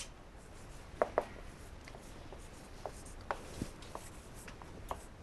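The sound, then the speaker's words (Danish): Quiet, irregular scratches and taps of words being written on a board during a talk, a few sharper strokes standing out over a soft background hiss, with no one talking. “Og her skriver du al kærlighed.”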